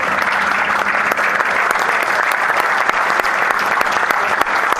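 Steady, dense applause from a large audience at an award ceremony, many hands clapping together at a constant loudness without pause for about five seconds, with no voices standing out, for the silver medal in the sowing category won by the firm Metal Técnica Agroflex.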